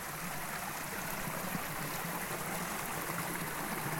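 A mountain stream, the Tosbach, flows a few metres beside an alpine hut on the Schwegalp, fed by small brooks, rushing steadily with a broad, continuous hiss and gurgle at a constant level with no voices or breaks.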